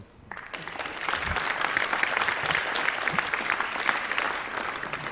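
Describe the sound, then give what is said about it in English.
An audience claps steadily to welcome a team presenting a software tool for supply chain risk analysis, a dense wash of many hands that starts abruptly and holds a fairly even loudness for several seconds without fading. “I want you to give them a welcome applause.”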